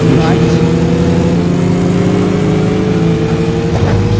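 A racing video game car engine drones loudly and continuously, holding a steady, buzzing pitch with slight rises as it revs, filling the whole stretch without pause, as the player races against computer-controlled cars.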